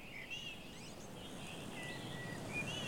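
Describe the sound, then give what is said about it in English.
Birds chirp and sing continuously in a forest, several high, thin calls overlapping, over a steady rushing wind outdoors. No one speaks. “We're outside and it's windy. There are lots of birds.”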